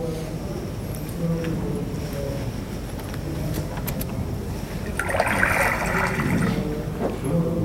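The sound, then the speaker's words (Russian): Water pours steadily with a hissing wash, swelling into a brighter, splashier gush partway through before settling back into the continuous flow. “Вода льется, представляете?”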